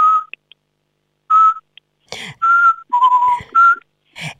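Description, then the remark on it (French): A person whistles a series of short, steady, mid-pitched notes spaced with pauses, imitating the call of a Eurasian pygmy owl, with some breathy noises and rustling between the whistles. “Et l'autre, la chevêchette, si on l'appelle, elle vient. Hein. Elle fait”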